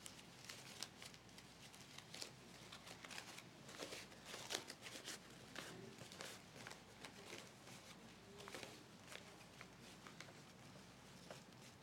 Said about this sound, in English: Take that piece of paper I give you to crumble up and open it up.